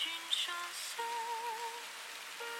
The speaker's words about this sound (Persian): واسه همینه به صدای بارون گوش میدم تا صدای گذشته هامو نشنوم.